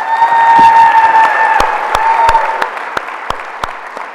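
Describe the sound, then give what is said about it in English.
An audience at a candidates' event applauds as candidate Jessica Gomez is welcomed, in a dense wash of clapping with a few sustained cheering tones, then thins out to scattered individual claps before fading. “For the audience, I'll ask you to enter listening mode now and hold the rest of your applause or anything else until the end.”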